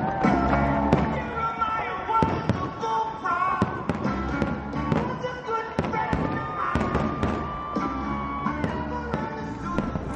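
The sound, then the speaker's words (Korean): Fireworks burst again and again in an irregular barrage of sharp, booming pops at the July 4 Independence Day fireworks display in Washington, DC, heard over a steady background of music and murmuring voices from a large outdoor gathering. “예, 뭐 뻥뻥 터지는 소리가 들리는데 독립기념일 불꽃놀이 소리 아니겠어요?”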